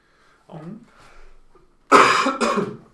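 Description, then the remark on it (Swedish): Two harsh, explosive coughs in quick succession, loud, following a few soft, murmured vocal sounds. “Hosta vidare.”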